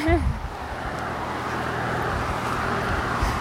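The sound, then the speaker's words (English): Steady roadway rumble with a broad wash of tire and engine noise, like cars streaming past; a brief voice-like sound appears at the very start. “Back to the traffic zone.”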